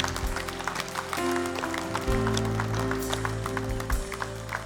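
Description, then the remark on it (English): An audience applauds, giving the Lord a hand clap of praise, a dense, steady patter of many hands clapping at once, over sustained low musical tones that shift pitch a few times. “Would you give the Lord a hand clap of praise for what he's done in these hearts and lives?”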